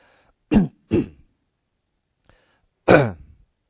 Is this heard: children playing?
no